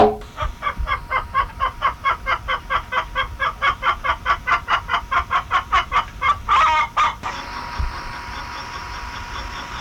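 A hen clucks close by in a fast, steady run of short notes, fairly loud, ending abruptly and leaving a low steady background hum.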